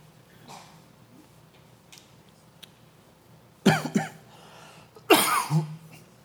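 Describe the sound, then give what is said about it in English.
Two loud bouts of dry coughing, each a quick cluster of harsh hacks, separated by a short pause after a few seconds of quiet. “This is the dry cough here.”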